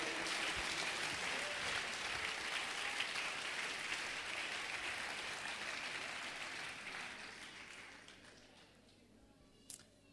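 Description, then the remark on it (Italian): An audience applauds for Jesus during a sermon in a dense, sustained burst of clapping from many hands, steady for several seconds before gradually thinning and fading out, with a few scattered claps at the end. “Dobbiamo fare un applauso a Gesù.”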